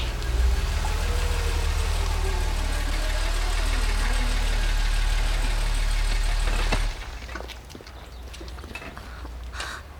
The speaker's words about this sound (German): Vorsicht, da kommt ein Auto.